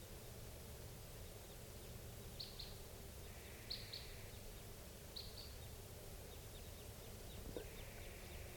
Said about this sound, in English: Stop. I hear crossbills at 7:46. Stop. Birds just flew past. They were type 2. Stop. Crossbills at 8:22.